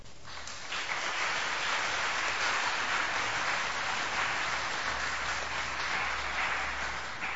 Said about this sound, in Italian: Don Fortunato Di Noto, che vorrei che cogliessimo subito con un applauso.